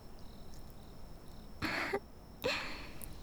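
A soft, breathy yawn made in two short airy bursts over a quiet background hiss with no talking.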